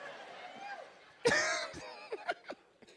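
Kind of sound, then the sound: human body sound, person coughing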